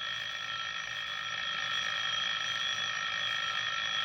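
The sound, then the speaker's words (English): A telephone rings with a steady, shrill electronic tone made of several stacked high pitches, holding at an even loudness for about four seconds with no voices. “your phone's ringing.”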